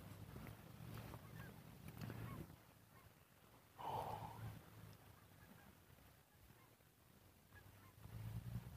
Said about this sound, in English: There's some geese. Five, 30 of them.